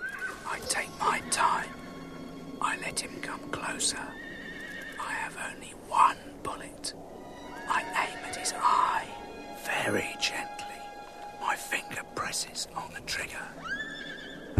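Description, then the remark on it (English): A grey horse tethered to a tree stump in a snowy woodland clearing neighs and whinnies several times in short, uneven bursts over a steady outdoor background, with faint voices murmuring between the calls. “A grey horse is tethered to a tree stump in the middle of a clearing.”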